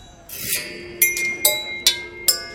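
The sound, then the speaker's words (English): A half dozen long, bright red metal crop thresher teeth, hanging in a bunch like wind chimes, clink together five times at a steady, unhurried pace, each strike bright and high-pitched, leaving a clear ringing tone that lingers between hits. “It's got kind of this beautiful sound when they hit each other, but they also just sound great with knitting needles.”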